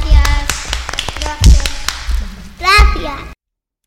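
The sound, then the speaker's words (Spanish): A short burst of scattered, uneven clapping from a small group, with children's voices calling out over it, stopping abruptly after about three seconds. “Vale, un aplauso, muchas gracias.”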